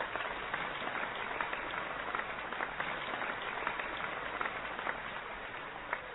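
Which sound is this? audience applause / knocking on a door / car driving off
audience applause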